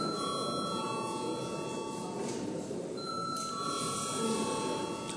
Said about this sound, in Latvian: Deputāti iebilst, līdz ar to mums nepieciešams balsojums. Lūdzu, zvanu.